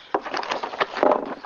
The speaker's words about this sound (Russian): Ой, катаются стаканчики.